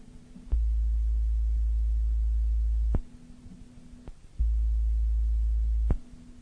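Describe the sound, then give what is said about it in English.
Two long, steady low electronic tones marking the break between major sections of an audio magazine recording, each lasting a couple of seconds with a click at its start and end, separated by a brief gap of faint hum. No one speaks. “There will be two tones between each major section or article of the magazine, and one tone between each subsection within.”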